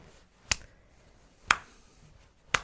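Three sharp, evenly spaced hand claps about a second apart, a deliberately slow clap. Each clap is crisp, with quiet pauses between.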